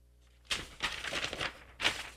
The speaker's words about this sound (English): Probably hear me shuffling papers here.